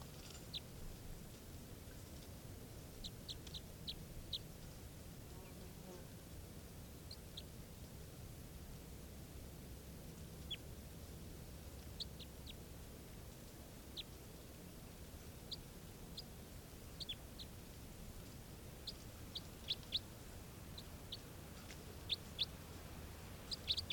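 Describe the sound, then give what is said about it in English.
Short, high-pitched bird chirps from a decoy call, repeated irregularly in small bursts over a steady background hiss, with no one talking. “This is the other decoy.”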